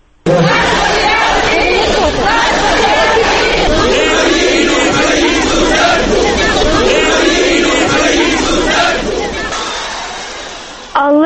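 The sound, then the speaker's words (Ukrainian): A large crowd of protesters against the patriarch in Rivne, several hundred strong, many with flags of the Ukrainian People's Party and Svoboda, shouts and chants slogans such as 'Down with Moscow proselytism' together, a dense wall of overlapping voices that stays loud and steady for most of the stretch before thinning slightly near the end. “здебільшого з прапорами Української народної партії і Свободи, вони мали інші лозунги, наприклад, геть московський прозелітизм, імперіалізм, РПЦ служи Господу, а не Кремлю, ми хочемо молитися рідною мовою тощо.”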